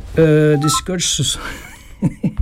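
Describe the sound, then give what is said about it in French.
A mobile phone rings with a short, loud electronic tone, quickly followed by breathy bursts and a few soft voiced sounds. “Merde, gesticulez, mon téléphone qui sonne, c'est pas possible, au secours.”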